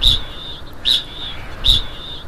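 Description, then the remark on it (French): A kakapo, a flightless parrot, calls in southern New Zealand with a steady, shrill high-pitched tone, broken by three louder bursts at regular intervals, each with a soft low thump, with no talking. “Comme tu peux le voir, le cacapo ne vole pas, contrairement aux autres membres de la famille des perroquets.”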